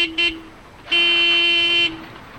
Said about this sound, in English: This is a noisy place. Cars and trucks honk their horns under the viaduct, and men are yelling about money at a bar next door.